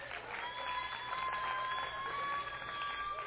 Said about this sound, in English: Give a great big hand clap to all our helpers.